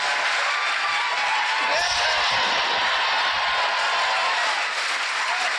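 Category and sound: crowd, audience cheering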